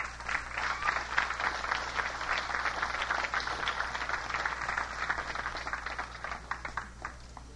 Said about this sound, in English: Let's clap them onto the stage.